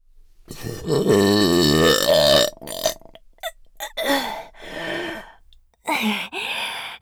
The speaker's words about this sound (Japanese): かーやっべー、画面揺れちゃうくらいの爆音ゲップでした。いやん、超はずい。